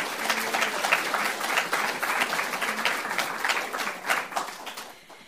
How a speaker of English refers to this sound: Please give them another round of applause to welcome them.